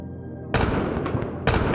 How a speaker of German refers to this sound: Es ertönen die Kanonenschläge und die bunte Feuershow beginnt. Der dunkle Nachthimmel färbt sich in den schönsten Farben. Goldregen, explodierende Sterne, rote und grüne Kugeln verteilen sich über unseren Köpfen.